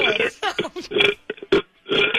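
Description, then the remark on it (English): Someone burps the alphabet letters A through F, about six loud, throaty voiced belches in quick succession with short gaps between them. “Like, can you burp the alphabet?”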